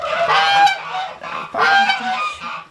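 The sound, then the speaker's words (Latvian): Geese on a farm in Dzelzava honk loudly and insistently at a stranger in two long bursts, a chorus of harsh, overlapping calls with a short pause between them. “Kā es svešāks, tā visi bļauj.”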